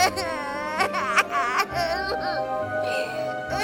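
A child cries in wavering, high-pitched sobbing bursts, with a low steady hum sustained underneath throughout.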